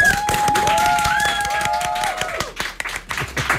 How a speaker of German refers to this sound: dann könnt ihr auch mal einen riesen Applaus für Anne Schweizer geben